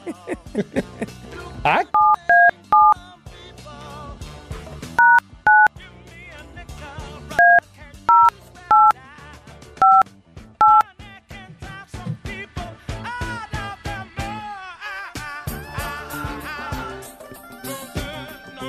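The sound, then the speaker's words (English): A touch-tone phone number is dialed, starting with a one: about ten crisp dual-tone beeps in an uneven rhythm, loud, over busy background sound with some voices. “Okay, so we got to dial the one.”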